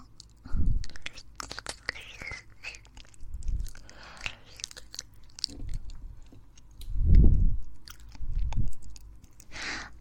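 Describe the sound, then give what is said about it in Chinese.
Wet mouth sounds of a tongue being worked by fingers: chewing and smacking, with soft squelches and clicks coming in uneven bursts, a few louder ones near the start and toward the end, and no talking. “先生用手指不停地嚼我不听话的舌头，真的很喜欢呢。”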